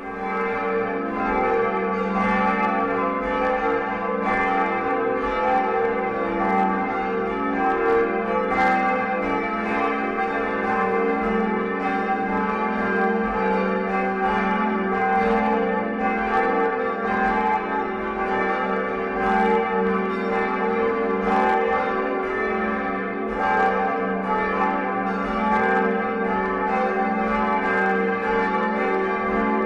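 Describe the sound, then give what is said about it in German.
The morning bells of the Catholic church of St. Remigius in Dahnfeld, Heilbronn district, Germany, ring continuously in a full, overlapping peal, their rich tones sustained and steady throughout with no voices present. “wir hören die Glocken der katholischen Kirche St. Remigius in Dahnfeld im Landkreis Heilbronn nochmal.”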